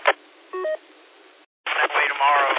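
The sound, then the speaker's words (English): A quick pair of phone keypad tones, two short dual-pitched beeps pressed in fast succession as a phone number is typed in to give a quick ring, heard over a thin phone-line sound before a person starts talking. “Tell me the number and I'll type it in here and it'll just give you a quick ring.”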